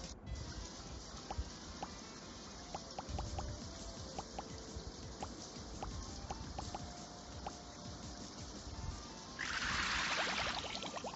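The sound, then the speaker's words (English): Water drops plink irregularly over a soft watery background, scattered across several seconds, before a brief splashing, hissing rush of water near the end. “You are missing 7 drops.”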